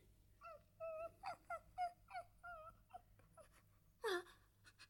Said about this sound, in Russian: По-моему, это ворона.